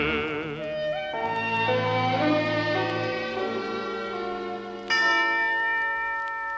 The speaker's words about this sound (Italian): Suona lieto il campanil del Redentore.